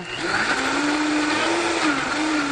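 A high-speed blender roars steadily as it processes tomatoes and peppers, its motor whine holding a strong pitch that dips and rises slightly as the vegetables churn. The sound is loud and continuous, with no talking.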